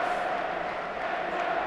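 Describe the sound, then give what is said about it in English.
A large football stadium crowd cheers and roars during a match between Newcastle and Wolves, trying to lift Newcastle, in a steady, continuous wash of noise, holding an even level throughout with no clear individual voices. “But the crowd are trying to pick them up, for sure.”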